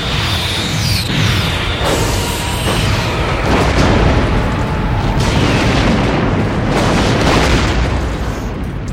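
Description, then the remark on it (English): A sustained barrage of loud, rumbling explosions of a Klingon Bird of Prey spaceship, several deep booms rolling one into the next with crackling debris throughout, overwhelming, with no talking. “Yes, I love that distinct boom, boom, boom, boom.”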